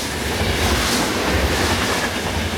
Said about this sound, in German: Einem einfahrenden Zug.